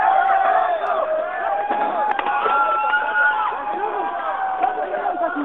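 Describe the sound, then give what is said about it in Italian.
A wailing siren signals the start of a simulated police charge and holds steady over a chaotic crowd, with many overlapping shouts and voices, running feet and sharp thuds and bangs scattered throughout, as people dressed in black with club-like batons stage the assault, all heard through a muffled, narrow-band recording. “Sirena partita la carica. Sentite.”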